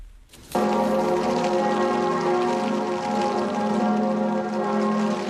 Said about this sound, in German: Nur die Glocken der Kirche Notre-Dame läuteten, ansonsten war es still heute Mittag um 12 in Paris und im ganzen Land.